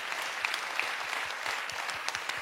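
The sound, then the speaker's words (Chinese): A church audience claps to give glory to the Lord during a sermon, in a steady, dense wash of applause, many hands overlapping into a bright, even patter that holds its level throughout with no voices. “拍手把荣耀归给主，好不好？”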